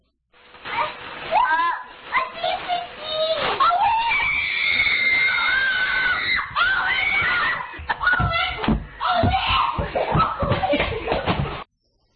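Excited children scream and shriek with joy, high-pitched overlapping squeals rising and falling continuously for about eleven seconds, loud, mixed with tearful, crying-like wails and some thumps.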